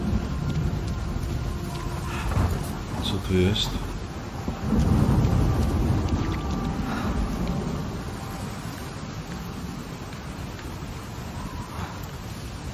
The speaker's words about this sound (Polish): zobaczcie, ten deszcz! Jak się ruszają te palmy w tym deszczu, po prostu jak oni robią te gry?